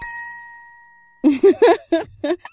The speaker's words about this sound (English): Is it the Bell of Wakefulness? It sure looks like a Bell of Wakefulness. Okay, let's finally wake up the Queen of the Unicorns. I pick up the golden bell and I give it a ring.